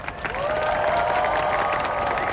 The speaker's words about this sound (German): Die dort versammelten Londoner und Touristen wollen hören, wie Big Ben zum letzten Mal für lange Zeit schlägt. Danach gibt's spontanen Applaus.